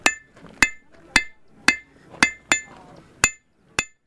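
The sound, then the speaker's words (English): A blacksmith at a celebration demonstration, making tools by heating metal over a fire, strikes hot metal with a hammer in a steady series of about eight sharp, ringing blows, each clang bright and metallic with a brief decay, a slight hitch in the rhythm near the middle. “A blacksmith making tools by heating metal over fire.”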